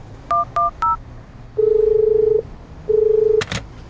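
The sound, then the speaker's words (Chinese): Three quick telephone keypad beeps in a fast rhythm, followed by two long, steady ringback tones with a pause between, then a sharp click, as a phone call is made to the police. Clear, with no one talking. “那我打电话给警察。”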